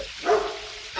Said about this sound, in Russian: А это моя собака. Ее зовут Боцман.